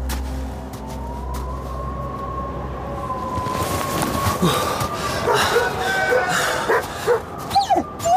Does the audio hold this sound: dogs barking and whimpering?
yes